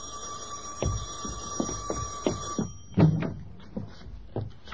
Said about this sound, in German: Und wenige Stunden später klingelt es draußen Sturm.